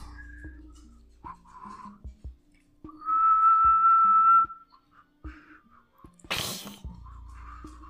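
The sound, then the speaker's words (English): A person whistles one loud, sustained, steady note, imitating the whistling call of the Lokeza, a legendary creature, surrounded by scattered soft knocks and a sudden sharp breathy burst near the end. “Very much like a human whistling.”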